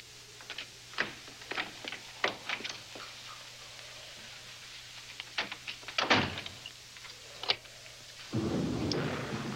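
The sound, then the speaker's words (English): The solid door of a room is shut with a thump amid a run of sharp clicks and rattles as it is locked for the night, followed by a steady hiss of noise, with no one speaking. “we're going to lock ourselves in my room”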